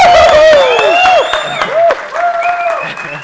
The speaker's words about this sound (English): So just to make him feel really bad and even worse about his session, can we all just have a really, really big round of applause?